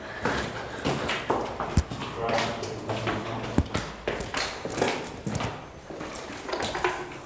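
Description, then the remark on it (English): Hard footsteps climb stairs at an uneven pace, with sharp taps every second or so over a hollow, echoing tone. The steps are moderately loud. “Oh, spent many nights climbing these stairs.”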